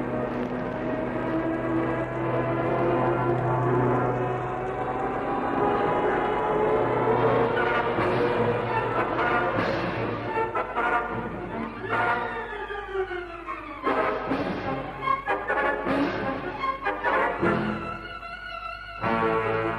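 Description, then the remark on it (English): A loud, continuous engine roar of a plane, the Mosquito, diving overhead from the sky at a patch of elephant grass, its droning pitch bending and sweeping as it swoops down and pulls away, with no voices. “Michu and Haines hold their breath as the first plane sweeps down from the sky at the patch of elephant grass.”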